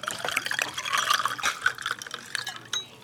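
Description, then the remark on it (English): Water pours steadily into a glass at a restaurant table for a few seconds, a bright splashing stream with gurgles and a few drips at the end, no voices. “Would you like some water? Yes, please.”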